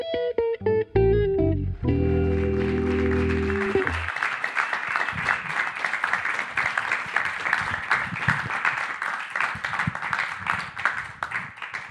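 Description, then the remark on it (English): A short musical sting plays, then a large audience breaks into loud, sustained applause as a comedian walks on stage, a dense wash of many hands clapping that keeps going steadily until the end. “You look there like you were relishing them continually clapping for ages, despite their small size.”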